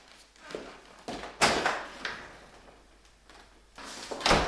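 A cup drops to the floor, clattering and knocking in several sharp impacts spread over a few seconds, with a final loud hit near the end and no voices.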